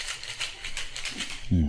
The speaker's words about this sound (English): I think I'm gonna just, make myself a little drink here. Get some ice. Alcohol's all ready. Let's just shake that baby. Just shake it. Shake it. Shake it. Shake it.